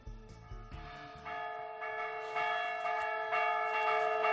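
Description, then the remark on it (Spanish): Church bells ring the fire toll, a rapid, insistent alarm peal warning of fire, strikes piling up so the ringing grows steadily louder and denser, with no talking over it. “A ver, ahora otro toque de campanas, el toque a fuego.”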